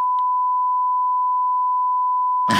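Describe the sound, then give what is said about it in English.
A steady, unbroken censor bleep holds one high pitch for over two seconds, covering a spoken street address; a voice cuts back in abruptly right as the tone ends. “No, I'll beep that out.”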